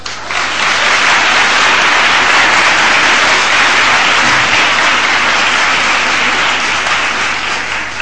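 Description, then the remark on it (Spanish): Loud, sustained applause from an audience after a song, a dense wash of many hands clapping steadily for about eight seconds with no voices. “Como habéis sido tan amable y benevolente, todas las palmas que han sonado y las posibles que suenen al final, por favor, permitid que se las dedique a mi padre.”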